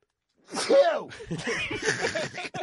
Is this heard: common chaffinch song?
no